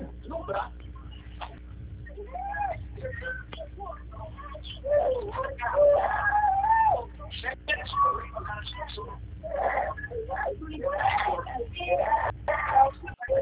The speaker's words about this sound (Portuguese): Eita, quem é que tá chorando aí? É o meu sobrinho